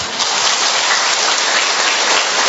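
Heavy rain pours down in a steady, dense hiss, loud, with a continuous pattering roar and no voices.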